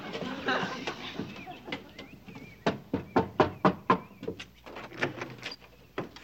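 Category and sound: impact, knocking on a door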